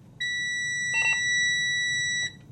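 An electric school bus, one of the Beverly, Massachusetts school district's two, is started by its driver in the district's school bus lot, giving a steady, piercing electronic beep held for about two seconds with a few short chirps overlapping midway, then cutting off abruptly. No one speaks.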